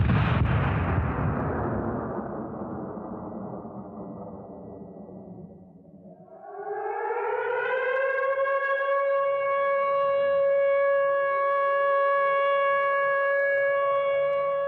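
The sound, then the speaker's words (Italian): A cannon blast booms and its rumble slowly fades, then a loud siren wails upward and holds a steady, sustained tone. This is the cannon shot that opens Arseni Avramov's Symphony of Sirens, first performed in Baku in 1922, with factory and ship sirens sounding together. “Lo scoppio di cannone con cui inizia la Sinfonia di Sirene di Arseni Avramov, compositore dell'avanguardia russa, è il 1922, quando a Baku quest'opera viene eseguita per la prima volta.”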